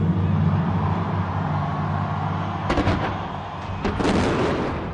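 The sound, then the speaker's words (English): Sharp fireworks bursts crack out over a dense, continuous rumble, with a couple of sudden loud bangs near the end echoing, the finale of a record-setting New Year's fireworks display over Dubai that used over 400,000 fireworks. “set another Guinness World Record for world's biggest fireworks display ever”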